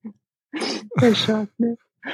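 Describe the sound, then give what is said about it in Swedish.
A few short, husky coughs come in quick bursts, one drawn out with a voiced, throaty edge, moderately loud with brief pauses between them. “Ja, men vi hör ju att det hostas lite här”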